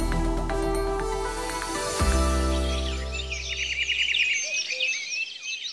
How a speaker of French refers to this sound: La forêt, les petits oiseaux, ce serait presque reposant pour ce nouveau numéro du magazine sur la République fédérale.